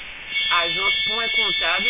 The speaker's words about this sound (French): Alors, je vais devoir raccrocher si vous n'entendez pas, parce qu'on a une alerte incendie, donc je vais devoir mettre ça mal à la porte.